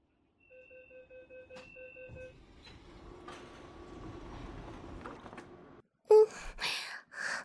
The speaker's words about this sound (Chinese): 电车已到站，请各位乘客有序下车，欢迎您下次乘坐，再见。